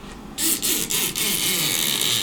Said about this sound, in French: D'abord, c'est l'art de trouver des objets qu'on peut détourner pour faire du son qui n'est pas du tout celui qu'on pense. Alors, si je la prends la bande et que je frotte comme ça, je vais avoir une espèce de grince.